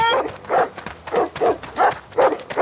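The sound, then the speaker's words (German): Dogs bark at night on an orange plantation in a quick, steady series of about six loud yaps, with a thin high whine running underneath. No one speaks. “die Hunde kommen!”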